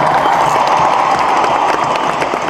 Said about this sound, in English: There's so many people who make this show happen for you every night. It's not just the people who are on the stage. There's so many people backstage, and they deserve a huge round of applause. Let's give it to them right now.